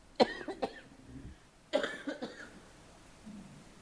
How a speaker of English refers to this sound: and I'm going to start coughing.